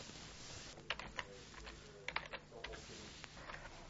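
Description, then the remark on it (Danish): Keys clatter on a computer keyboard as the search words 'regnskab' and 'SAP' are typed into the Jobindex CV database, in short, irregular bursts of clicks with brief pauses between, fairly quiet, over a faint steady background hum with no talking. “Hvis jeg for eksempel gerne vil finde en regnskabsmedarbejder med kendskab til SAP, så skriver jeg regnskab og SAP nede i søgeordene.”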